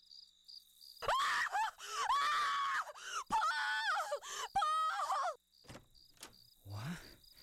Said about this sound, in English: At around 5:30 in the morning, I was awakened by screams of horror coming from the hallway.